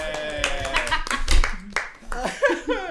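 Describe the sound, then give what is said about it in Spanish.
A short burst of audience applause on a show, with scattered claps, mixed with overlapping voices and some laughter, fairly loud for about three seconds. “Un aplauso.”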